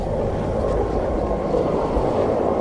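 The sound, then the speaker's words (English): Two helicopters arriving from town circle down to land in clear weather, a steady, loud drone of engine and rotor noise, a dense low rumble that holds evenly throughout with no voices over it. “We gear up fast, and two helicopters arrive from town. They circle down to pick us up.”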